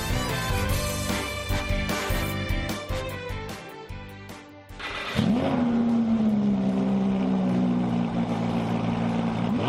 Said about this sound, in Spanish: Este sonido activa la adrenalina de muchos jóvenes. Es el rugir del motor que da inicio a las carreras ilegales de coches.